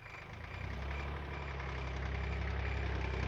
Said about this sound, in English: Nick stood next to Joe, and they watched the tractor come nearer.